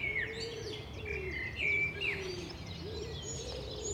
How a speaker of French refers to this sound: On entend le pigeon ramier. Pour le reconnaître, il y a un truc assez simple par rapport à la tourterelle, parce que souvent les gens le confondent, c'est le nombre de syllabes. Avec le pigeon ramier, on peut faire « je suis un pigeon »